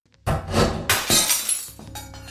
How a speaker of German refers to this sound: Man hörte einen Schnappen, so als sei eine Arretierung gelöst worden, und das Zerschellen von Glas. Das Bild war zu Boden gefallen, und dahinter war der Teleschirm sichtbar.